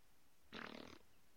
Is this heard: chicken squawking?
no